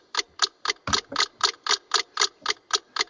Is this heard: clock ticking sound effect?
yes